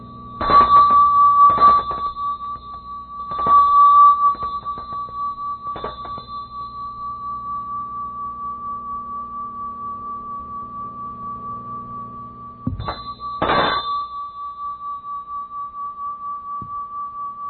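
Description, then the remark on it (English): A handheld metal bell is rung several times in quick bursts, its clear bright tone sustaining and shimmering between strikes, then fading into a long, steady ring before another pair of strikes. “This bell, this handheld bell, has more metals than seven in it.”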